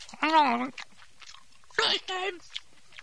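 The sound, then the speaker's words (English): Someone chews a crunchy bite of apple, with wet mouth crunches between short bursts of muffled, full-mouthed vocal sounds. “Here, let me take out the apple. I said anything for now. I'm sorry, let me take off the clothespin and finish your chewing, right?”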